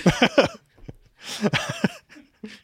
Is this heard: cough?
yes